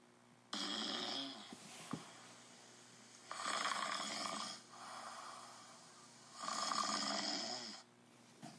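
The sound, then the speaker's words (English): Men, U.S. Army volunteers, snore loudly in a tent at Lewis and Clark's fort in 1804, in long, rasping breaths, three main bursts rising and falling with quieter breathing between them, no talking. “The sound of snoring men filled the tent.”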